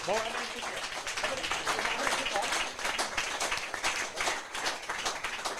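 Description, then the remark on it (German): An audience applauds steadily throughout as audience members are called to the front to play along, a dense wash of many hands clapping at even loudness, with a voice briefly audible at the very start and murmured crowd noise underneath. “Ein Applaus, sie kommen nach vorne, spielen mit.”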